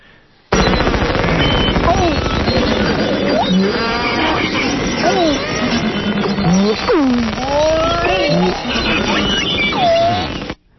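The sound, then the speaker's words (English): Dense underwater chorus of beluga whale calls: rising and falling whistles, chirps and squeals layered over crackling clicks and buzzy pulses, loud and continuous for about ten seconds. “Okay, those are beluga whales.”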